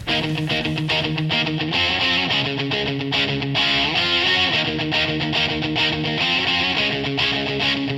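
A loud, driving heavy metal intro with thick distorted electric guitar chords and pounding drums, dense and full-band throughout, with no voices.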